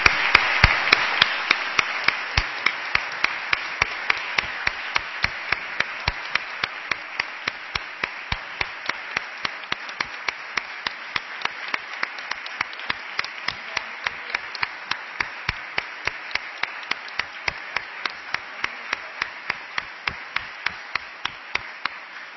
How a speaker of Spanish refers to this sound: Han acabado todas las intervenciones y pido ahora sí un fuertísimo aplauso para todas ellas.